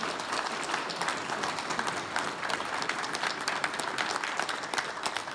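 Heavy, sustained applause from a large crowd as Ernest Hancock leaves the stage, a dense wash of many hands clapping at once that holds steady for the whole stretch, with no speech over it.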